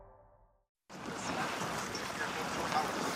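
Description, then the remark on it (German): After a faint brief sound and a short silence, the broad rushing of the Yangtze's huge masses of brownish water rises and holds as a steady, full roar to the end, at the riverbank on the edge of Changzhou in eastern China, beneath the world's longest cable-stayed bridge. “Hier am Ufer, am Rande der ostchinesischen Stadt Changzhou, rauschen die gewaltigen bräunlichen Wassermassen des Yangtze entlang.”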